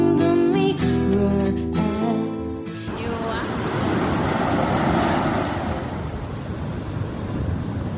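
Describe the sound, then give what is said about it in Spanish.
A voice or tonal sound fades out over the first seconds, then a steady, loud wash of ocean surf takes over, waves rolling and breaking in a continuous roar. “Para mí, el sonido de las olas golpea mi memoria y me trae la sensación de los pies descalzos y el brillo a lo lejos de una estrella.”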